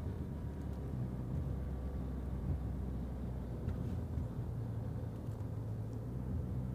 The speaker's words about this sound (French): J'arrive dans une seconde. Si tu vois une petite voiture de sport, de couleur rouge, c'est moi qui suis dedans.